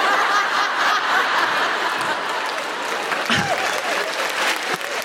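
Steady, dense applause from an audience runs through the whole stretch at an even, loud level, with a few snickers and chuckles mixed into the clapping.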